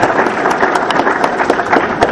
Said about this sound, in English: let's give one loud clap for all the Catholic grade school teachers.